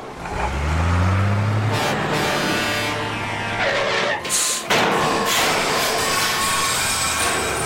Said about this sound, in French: Le camion poubelle est prêt pour aller vider toutes les poubelles de la ville. Allons-y les enfants, suivons-le.